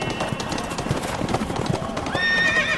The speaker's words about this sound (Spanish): En esos momentos se escuchaba el galope de unos caballos. Perdón, me equivoqué. Eran unos caballos.